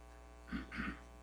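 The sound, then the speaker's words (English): A faint, steady electrical hum from a power-line insulator as electricity tries to find its way across it, swelling briefly into a harsher buzzing crackle in two quick surges before settling back to the low drone. “And that's the electricity trying to find its way across that insulator.”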